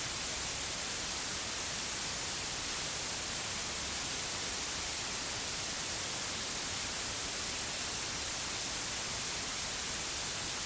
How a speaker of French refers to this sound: Remue doucement tes doigts. Et écoute comment le bruit blanc répond.